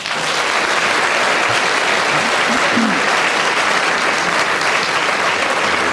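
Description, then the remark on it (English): Loud, sustained applause from a large audience, a dense steady wash of clapping that fills the whole stretch without letting up, with a faint murmur of voices beneath it. “I feel the powerful applause there”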